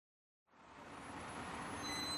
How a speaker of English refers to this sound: I'm at Tietê bus station in Sao Paulo in Brazil to catch the bus for the long trip to Lima, Peru.